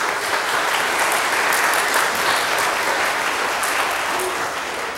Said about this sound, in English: Please, a round of applause for these people.